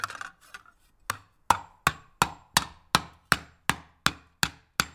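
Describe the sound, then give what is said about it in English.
Steady hand hammering of recycled copper at Sir Toto Copper, an Austin cooperative making handmade copper cookware: about a dozen sharp ringing blows at an even, brisk pace, clear with no voices, after a few softer scrapes at the start. “All of Sir Toto's products are made from recycled copper and beaten by hand.”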